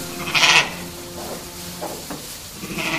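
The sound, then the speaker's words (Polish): Sheep bleat a few times, one loud cry at the start followed by fainter calls from the flock, at a farm in Pawłowice, Wielkopolska, Poland, which keeps two conservation flocks of Merino and Romanov sheep; no voices present. “Jest tam też liczne stado owiec, a nawet dwa stada.”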